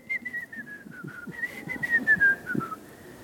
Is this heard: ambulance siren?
no